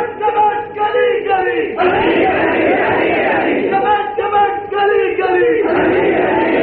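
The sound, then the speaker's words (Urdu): A large crowd loudly chants a slogan in honour of Hazrat Ali in unison, sustained voiced calls alternating with broad roaring shouts in a repeating rhythm, continuous and forceful throughout. “بلند آواز سے نعرہ لگائیے حضرت علی کی شان میں، تاکہ دنیا کو پتہ چلے کہ سنی سے بڑھ کر، سپاہ صحابہ سے بڑھ کر علی المرتضی رضی اللہ تعالیٰ عنہ کا پیروکار اور ماننے والا خادم اور کوئی نہیں ہے.”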